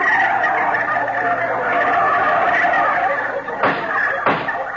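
A crowd of turkeys gobbles continuously and loudly, their overlapping calls forming a dense, warbling chorus, with a couple of sharp, noisy bursts near the end.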